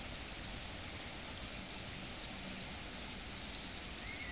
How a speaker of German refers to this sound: Der Regen erfrischt auch uns. Bringt eine Form von Reinheit, hilft uns wieder klar zu sehen, auch wenn der Himmel trüb zu sein scheint.